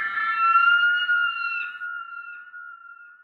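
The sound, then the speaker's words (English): A single drawn-out, piercing shriek of a poakai (Haast's eagle), the world's largest eagle, which hunted moa. It holds a high, harsh tone that slowly sags in pitch and fades away over about three seconds, with no voices. “And the occasional shriek of the poakai, the world's largest eagle, which hunted these moa with claws as big as a tiger.”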